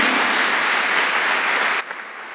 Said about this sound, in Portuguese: Dá um aplauso para o Senhor.